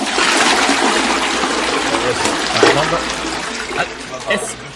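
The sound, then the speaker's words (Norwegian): A shower runs steadily in a toilet room, a loud, continuous hiss of spraying water lasting throughout, with faint voices briefly audible underneath, as someone takes a shower during a broadcast. “du kan ikke ta deg en dusj nå.”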